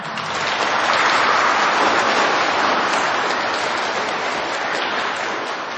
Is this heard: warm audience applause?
yes